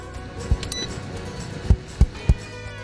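A small heater's knob clicks as it is switched on: four short mechanical clicks, the last three in quicker succession, over a faint steady hum with no talking.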